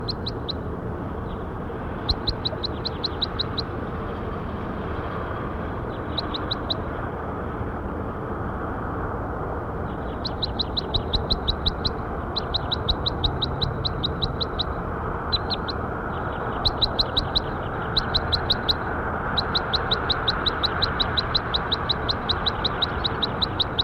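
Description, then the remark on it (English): Bird calls in quick bursts of high, thin chirps, repeated in short rapid trills every second or two, set against a steady low rumble of background noise. No one speaks. “That was bird 5-7.”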